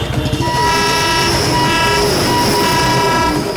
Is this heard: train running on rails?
yes